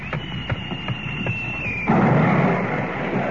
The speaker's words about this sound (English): Now do you believe me? That was a shell fired across your bow.